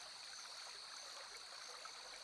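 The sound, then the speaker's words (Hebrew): A steady hiss of flowing water with a continuous high drone of crickets layered over it, part of a nature soundscape being built up, unbroken and even throughout, with no voices. “נוסיף לנו קצת צרצרים,”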